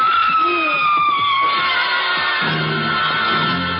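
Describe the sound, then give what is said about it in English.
A loud, sustained scream rings out with a piercing tone that holds steady before breaking into lower, rough shouting, all at constant volume. “Oh, all I personally need right now is for someone to scream good and loud.”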